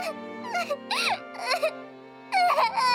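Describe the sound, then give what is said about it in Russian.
A baby cries in several wailing bursts that rise and fall in pitch, with short pauses between them and a louder, more insistent burst toward the end. “Только не плачь.”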